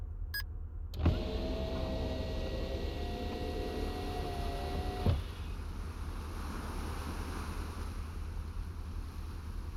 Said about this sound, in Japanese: さてここからがお楽しみ。この車窓をフルオープンにしますね。